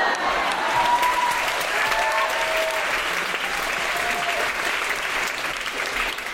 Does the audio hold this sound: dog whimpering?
no